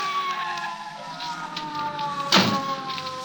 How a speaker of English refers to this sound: I was shaking the buzz out of my ears and scrambling to my feet when the police car screeched up to a stop.